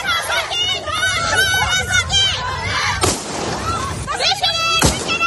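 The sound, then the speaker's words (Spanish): A street protest crowd of women in Kabul shouts and chants in a dense, lively din, broken by two sharp, loud gunshot cracks, shots fired into the air by the authorities a couple of seconds apart, while the voices carry on. “40 mujeres, 50 mujeres, desde luego muy valientes, tomaban las calles de Kabul en protesta por todo esto y pedían libertad, pedían educación y sobre todo pedían trabajo, pero fueron dispersadas por las autoridades con disparos al aire.”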